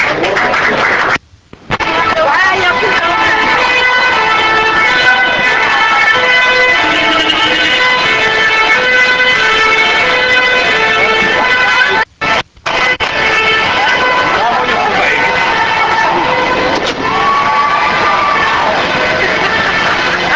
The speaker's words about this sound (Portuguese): Saída do carro de bombeiros que vai levando os atletas em desfile em carro aberto.